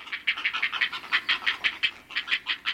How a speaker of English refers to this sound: Ah, music to the heron parents' ears. Healthy, growing fledglings ready to take off.